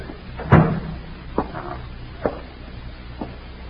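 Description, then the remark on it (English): A door swings shut with a solid thump, followed by a few lighter, spaced-out knocks or footfalls amid quiet. No one speaks. “Let me close the door.”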